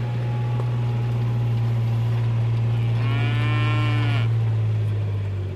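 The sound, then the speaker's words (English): A single cow moos once, a drawn-out low bellow lasting about a second, heard over a constant low mechanical drone. No one speaks. “Tell me about your cattle. What breeds have you got?”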